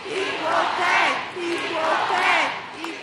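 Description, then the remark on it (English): A large crowd at a ticker-tape parade for the U.S. women's national team in the Canyon of Heroes, Lower Manhattan, chants "USA!" in a steady repeating rhythm as confetti and ticker tape rain down, two loud swelling chants filling the space with dense, roaring voices all around. “The confetti and ticker tape rained down today on the U.S. women's national team, and so did a by now familiar cheer.”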